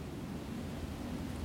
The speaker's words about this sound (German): Oder vielleicht ist auch der Wind in den Baumkronen. Das ist der Wind in den Baumkronen.